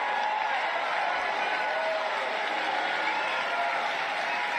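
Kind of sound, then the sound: crowd, crowd cheering and applauding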